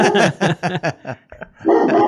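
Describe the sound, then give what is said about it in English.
A dog barks in a quick run of about five sharp, loud barks, goes quiet for a moment, then lets out one longer, drawn-out bark. “Just give me a second and I'll get the dog taken care of.”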